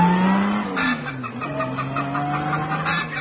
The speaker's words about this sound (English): The combined sound of an automobile and a hen was especially recorded for motoring enthusiasts who keep chickens.